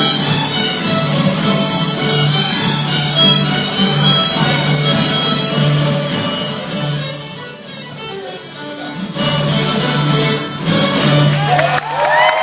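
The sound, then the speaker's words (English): A festival crowd at the Gray Fox Bluegrass Festival cheers and shouts for young child musicians performing on stage, a dense, continuous wash of voices, loud, briefly easing off in the middle before swelling again toward the end. “The young guitar, fiddle, mandolin, banjo, cello, and bass players performed to a cheering crowd.”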